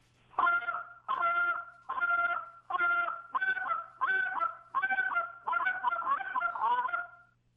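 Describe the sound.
A goose call blown loud in a run of about a dozen sharp, clipped honks, spit notes used as a comeback call, that quicken and blur together toward the end, with no talking over it.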